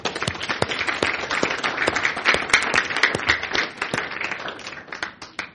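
Steady applause from an audience, dense overlapping claps with sharp individual hand strikes standing out, holding at a fairly even loudness for several seconds before thinning slightly at the end.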